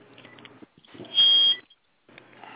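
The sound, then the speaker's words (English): A phone that has been off the charger too long gives a single loud, high-pitched beep lasting under half a second, sounding over soft rustling background noise, with no speech. “So it might have been that phone was again. Off the charger too long today.”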